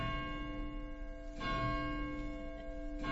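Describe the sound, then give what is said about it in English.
A bell located just next door to the home of Wesley's grandparents rings with a sustained, resonant hum of overlapping tones, struck again about halfway through and near the end, each strike adding a brief clang over the lingering ring. “Interesting to think that Wesley may have heard that bell himself once, visiting his grandparents just next door.”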